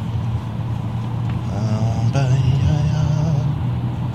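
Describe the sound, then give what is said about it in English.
A truck's engine rumbles steadily on the road, with a droning tonal whine joining midway and shifting pitch as it continues, loud and unbroken throughout, no talking. “Gosh, this truck is ticking me off.”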